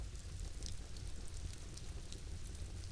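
Steady rain falls continuously, a soft, even hiss with a low rumbling undertone and occasional brighter patters, fairly quiet and unbroken, with no voices.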